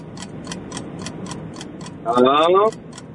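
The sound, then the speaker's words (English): A quiz countdown timer ticks steadily and quickly, about four clicks per second, and a brief loud buzzing tone sounds near the end before the ticking carries on. “Oh, there's the timer.”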